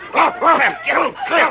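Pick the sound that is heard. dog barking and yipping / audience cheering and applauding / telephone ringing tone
dog barking and yipping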